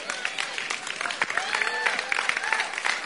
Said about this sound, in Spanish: Oye, mira cómo aplauden para ese punto, calma. No era la intención, pero verdad.